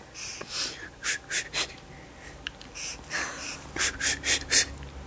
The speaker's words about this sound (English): Keep it in here. That's how they do it. You go. Keep it in until you can't, until you gasp it out.